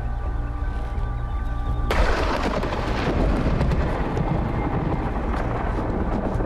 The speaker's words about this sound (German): Was? Das klang doch wie Donner. Was klang wie Donner?